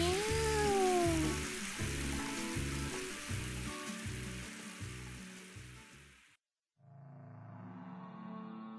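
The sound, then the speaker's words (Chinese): A single short meow from a cat named Baobaozi being given a shower, rising then falling, heard over a loud steady hiss like running water, with rhythmic low thumps continuing underneath before a brief drop to silence. “包包子乖吓，呢边啦，转过嚟呢边啦。 喵。”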